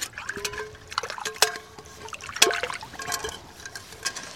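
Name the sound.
water pouring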